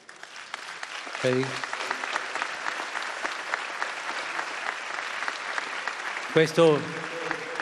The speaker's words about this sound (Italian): Questo applauso è per San Francesco de Assisi. Acest aplauz este pentru Sfântul Francisc din Assisi.